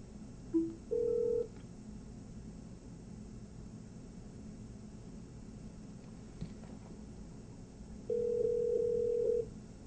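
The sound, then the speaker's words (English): A call from a Windows Mobile phone to the caller's own mobile number connecting: a brief beep, then a steady ringback tone that stops, a long quiet stretch of low hum, and the ring tone sounding again near the end. Moderate level, no voices. “So now if I call myself again, let me just go ahead and call mobile.”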